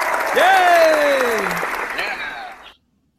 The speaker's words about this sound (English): Yeah, a round of applause for you, everybody.